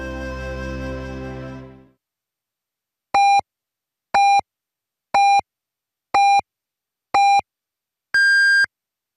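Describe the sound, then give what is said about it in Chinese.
A radio hourly time signal marking 20:00 Beijing time on China National Radio's Voice of China: five short, evenly spaced beeps a second apart, then a longer, higher final beep, clear and loud after a brief fading musical sound. “北京时间20点整”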